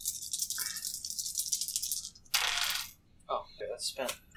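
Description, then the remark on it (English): Dice rolled for damage in a game clatter and rattle across a surface, a sustained bright rattling followed by a sharp burst and a few quick clicking tumbles, with no one speaking. “Roll damage.”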